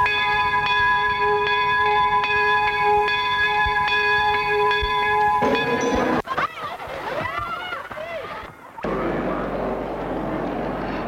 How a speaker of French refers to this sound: Cloche a retenti. Il faut rejoindre sa classe. Aujourd'hui, dernier jour d'école.